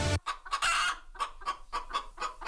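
A chicken clucks repeatedly in short, evenly spaced bursts, fairly loud, with no voices present.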